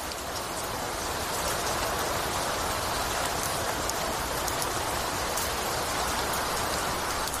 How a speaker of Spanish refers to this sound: La lluvia ha sido la gran protagonista de este lunes. Santander ha registrado la mayor precipitación de toda España, con 84 litros por metro cuadrado acumulados hasta media tarde.